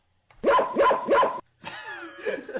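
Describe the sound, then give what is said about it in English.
A dog at a window barks loudly three times in quick, even succession at another dog in the yard, then breaks into higher whining yelps that waver and continue to the end. “I barked as loud as I could.”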